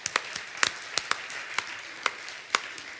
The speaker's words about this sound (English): We can truly applaud this day. Let's applaud this day.